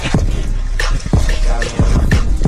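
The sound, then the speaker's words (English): Oxen being driven through a muddy field splash and slosh through water, with heavy, rhythmic slaps about every half second over a constant, loud wash of churning water. “You can kind of hear the water splashing. Right, so you hear them kind of sloshing through.”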